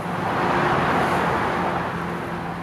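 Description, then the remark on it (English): A steady wash of car traffic rolls past on the New Bay Bridge, a broad continuous roar with a faint low hum beneath it, fairly loud with no voices. “the tall tower crane, the wonderful noise of the bay beneath, and the cars that are passing on the New Bay Bridge right next to it.”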